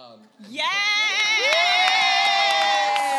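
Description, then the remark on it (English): A live audience erupts into loud, sustained cheering and whooping at a mention of Jacksonville, Florida; the roar rises suddenly and holds steady, with scattered claps mixed in. “Jacksonville, Florida just got a really big applause.”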